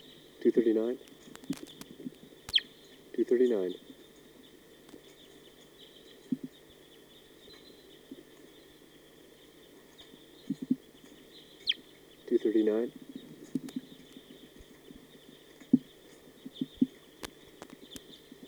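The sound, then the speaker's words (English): Wild birds give three short, throaty, low-pitched calls, two close together near the start and one after a long pause, over a steady high buzzing background and a few faint clicks, as the birds are coming down. “The recording, here comes a wild bird. They're coming down.”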